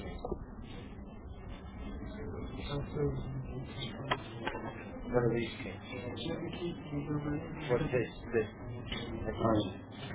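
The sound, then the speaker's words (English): Scattered metallic clinks and light rattles, like keys knocking together on a ring, come and go irregularly while a person talks throughout. “There was one key dropped off the hoop.”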